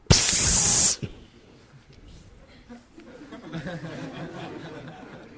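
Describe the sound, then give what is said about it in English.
A loud, sharp hiss voiced like an angry snake bursts out for about a second, then cuts off, leaving quiet murmuring and soft chuckles from people. “И как только раскрылась дверь, раздалось гневное, злобное шипение тысяч змей.”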